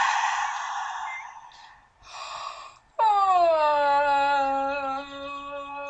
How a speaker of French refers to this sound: Vous inspirez. On expire et vous baillez.